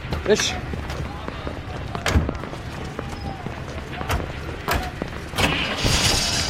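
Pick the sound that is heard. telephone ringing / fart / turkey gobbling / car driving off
car driving off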